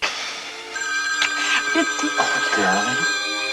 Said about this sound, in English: The phone's ringing.